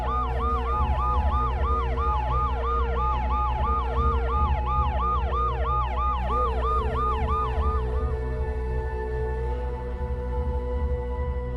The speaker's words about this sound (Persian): تو گاراژ صندلی چرخدار شاه رو که دورش مامورای تا دندون مسلح FBI حلقه زده بودن بلند کردن و داخل آمبولانسی گذاشتن که با آژیر روشن و تو محاصره ماشینای پلیس به سمت فرودگاه راه افتاد.